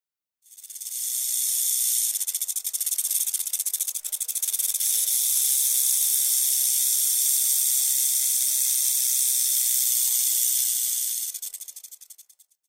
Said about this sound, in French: Le serpent.